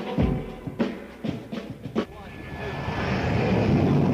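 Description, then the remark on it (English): A few sharp clattering knocks and thumps, then a steady airplane engine roar swells in and grows louder over the last couple of seconds as the plane, cleared for takeoff, heads to smash through the glass at Farrell's. “What's really great is that for a split second, as the plane smashes through the glass, most of the customers will probably think that it's all part of the fun at Farrell's.”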